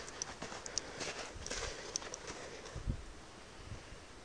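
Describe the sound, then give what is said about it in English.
A jacket zip pull jingles in light, irregular metallic ticks with each walking step outdoors in cold, snowy weather, faint clicks repeating over a steady hiss of background noise. “I could have sworn it like a drip from the lamppost. Oh, it's the zip on the jacket.”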